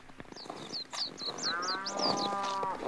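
Jacob's farmyard herd of sheep, cattle, camels and donkeys, with a drawn-out bleat or low rising over a busy, rustling background and quick high chirps repeating above it.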